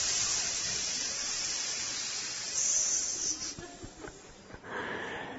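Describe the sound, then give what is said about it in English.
Hundreds of snakes in silos hissing in a steady, fairly loud rush of breathy noise that briefly wavers and dips near the end before swelling again. No voices are heard. “He started walking right toward them, and the snakes were hiss.”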